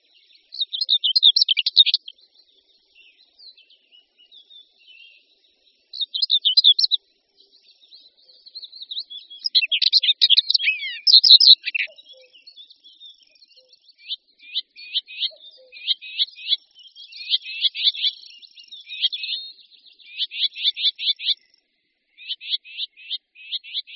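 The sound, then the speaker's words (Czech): Common whitethroat song: short, scratchy, rapid warbling phrases repeated in bursts with brief pauses, bright, with no other sounds around it. “Pěnice hnědokřídlá patří u nás vedle pěnice černohlavé k nejhojnějším druhům pěnic a můžeme se s ní setkat na všech místech, která jen trochu vyhovují.”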